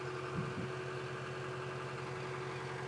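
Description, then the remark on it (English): A tractor engine idles with a steady low rumble and constant hum, having sat idling for about the last 10 minutes, its tone unchanging throughout, with a couple of faint thumps early on and no voices. “I feel like it's an idle tractor, for those who don't know.”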